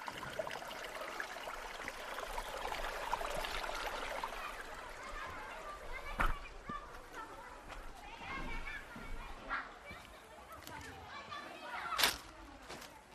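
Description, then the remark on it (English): Children's voices shout and chatter over the steady rush of flowing river water as barefoot kids skip across river stones and jump from a large rock into a pool, with a couple of sharp splashes or claps standing out near the end. “In bare feet, the kids skip across the river stones and have already raced ahead to where they can jump from a large rock into the pool.”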